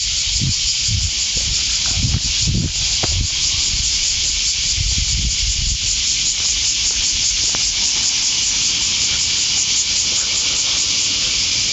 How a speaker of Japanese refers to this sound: いやーセミですね。よう鳴いとります。